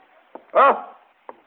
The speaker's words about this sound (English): It was you. You were knocking on the door. Your footsteps. Yes, of course.